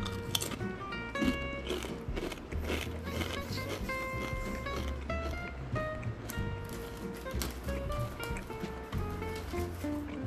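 Repeated sharp, crackly crunches of tortilla chips being chewed, coming in irregular bursts over steady background music with sustained tones.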